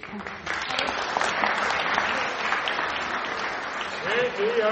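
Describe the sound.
A crowd breaks into sustained applause, a dense steady wash of many hands clapping for several seconds, with scattered voices and a few cheers mixed in toward the end.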